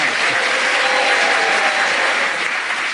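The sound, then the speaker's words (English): An audience applauds Jenny Eclair's contribution on a panel game, a dense, even wash of many hands clapping that holds at a constant, fairly loud level for about three seconds. “The applause from the audience endorse what you contributed, Jenny.”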